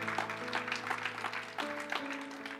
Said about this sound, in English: Let's give God a great hand clap, can we? Hallelujah. Thank you, God, for setting us free.